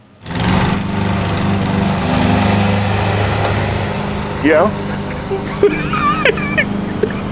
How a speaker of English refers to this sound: Okay, here I am. I'm pushing a lawnmower across this